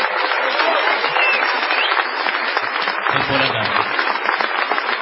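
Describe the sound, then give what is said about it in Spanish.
Sustained audience ovation at a show in Morón, a dense steady patter of many hands clapping at once, fairly loud, with a brief low rumble partway through. “Vamos a saludar, por favor, con una ovación”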